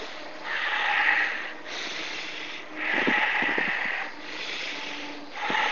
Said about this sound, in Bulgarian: ако искаш, може да бъде по-рязко, като типичното бастрика дишане.